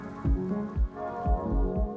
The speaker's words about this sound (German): Das Lied der Regentropfen?